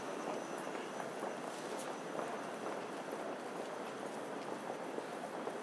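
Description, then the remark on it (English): A subway train rumbles steadily through a busy station at peak hours, its continuous roar layered with faint rattles and clatter that never let up, fairly loud from start to finish. “Need to find the peak hours subway, which is what I thought I would record today because it's a new route for him through the station.”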